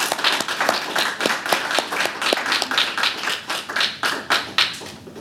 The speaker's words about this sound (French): Fait que je voudrais remercier tous ceux et celles qui se sont impliqués pour notre congrès. Je pense que ça va une main d'applaudissements.